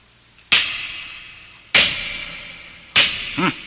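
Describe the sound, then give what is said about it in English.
Three heavy hammer blows strike solid doors at a steady, unhurried pace to test how thick they are. Each loud clang rings out and fades slowly, and a short low creak follows the final blow as the doors begin to open. “Throw me a hammer, would you?”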